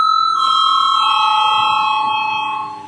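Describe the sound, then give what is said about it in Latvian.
An electric bell rings continuously for about three seconds, a steady, loud, buzzing metallic tone with bright harmonics, fading slightly at the end, with no talking. It is the bell of the Saeima, the Latvian parliament, rung for a vote on declaring a bill urgent. “Tātad vispirms ir jābalso par likumprojektu atzīšanu par steidzamu, lūdzu zvanu.”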